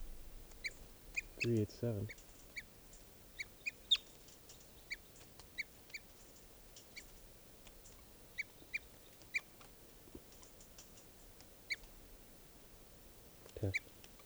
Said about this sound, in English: That hawk is still here, and these are the alarm calls of 387.